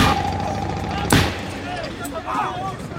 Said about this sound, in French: Le jeune homme vient de bondir et de tirer deux balles à l'arrière de la limousine. Les vitres se lézardent. Un agent qui se trouve sur le trottoir d'en face est touché à la joue par un projectile qui a traversé l'automobile.